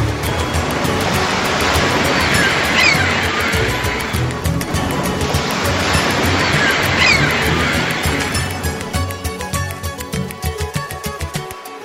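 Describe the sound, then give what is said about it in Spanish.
Sea waves roll in and break on the shore in two broad, rushing swells a few seconds apart, a steady loud wash of surf with no voices. “Contemplo el mar y no me muero”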